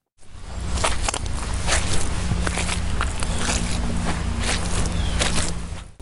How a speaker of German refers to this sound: Das Knirschen ist übrigens nicht nur ein Geräusch, es ist auch ein Gefühl. Für viele gehört es einfach zum Winter dazu, wie der Geruch vom Kaminfeuer oder das Glitzern vom Eis. Also ich finde, dass das Knirschen im Schnee einfach irgendwas hat.